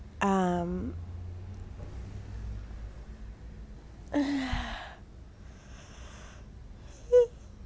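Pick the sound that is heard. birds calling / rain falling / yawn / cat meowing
yawn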